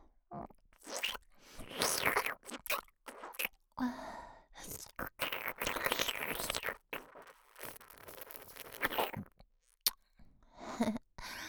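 Wet licking and sucking sounds of oral sex come in irregular, fairly loud and intimate bursts, separated by short silent pauses. No speech is heard.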